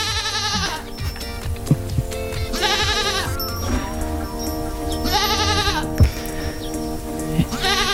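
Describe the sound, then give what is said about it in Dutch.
A baby goat bleats three times in loud, quavering cries spaced a couple of seconds apart, over a steady tonal background with no one speaking. “Dit is de dag, heeft het exclusieve commentaar van geitje Hans. Hij reageert euforisch.”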